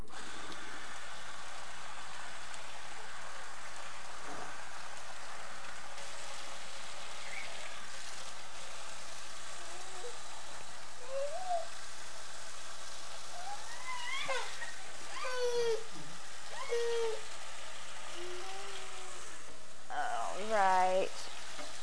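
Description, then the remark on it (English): Tap water runs steadily into a sink with a soft, continuous hiss while a baby bib is rinsed and scrubbed. Toward the end, high-pitched babbling vocal sounds rise over the water. “Okay, just gotta get this bib washed and then we can get out and play.”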